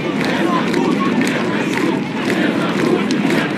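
A dense, continuous crowd roar of many voices shouting together, loud and steady throughout, with no single voice standing out; protesters chanting various slogans at a demonstration in Minsk, Belarus.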